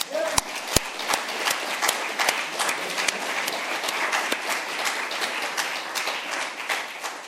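An audience applauds steadily for several seconds, a dense wash of many hands clapping at an even loudness, with a few sharper individual claps standing out near the start.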